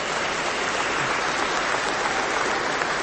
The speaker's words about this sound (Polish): Gorące brawa dla naszej scholi, abyśmy dzięki wspólnemu śpiewowi potrafili uwielbić Pana Boga. Brawa dla nich.